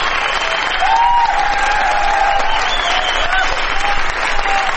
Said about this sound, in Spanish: Aquí estamos en la ciudad de Barcelona, con mucha gente amiga en la sala Apolo. Vamos a saludar inmediatamente con una ovación inolvidable a Patricio Barton.